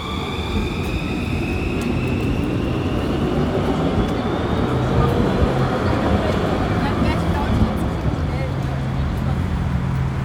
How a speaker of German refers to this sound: In einem Augenblick nehme ich in der winterlichen Morgendunkelheit die Straßenbahn an der Haltestelle Stieglitz in Leipzig.